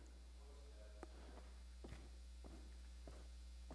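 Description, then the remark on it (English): Footsteps at a steady walking pace, about five soft thuds spaced roughly half a second apart, heard over a faint constant hum with no voices. “Yep, footsteps.”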